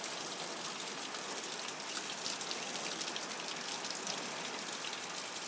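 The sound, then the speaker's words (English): Steady, dense rain during a thunderstorm hisses evenly throughout, a constant wash of drops with no pauses, no rumble of thunder, and no voices. “I was hoping for more thunder. I love thunderstorms.”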